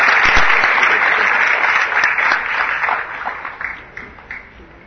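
A crowd applauds to welcome the chairperson of the co-organizing association to speak at an event in Taichung, with dense, steady clapping that stays loud for a few seconds, then thins out and fades, with a few scattered claps near the end.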